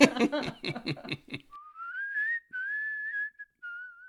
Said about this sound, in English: You know, I'll go to a jam and people are like, so what do you play? And I'm like, I whistle. And they go like, really? And then they hear me jam a little bit and they're like, give us another one, man.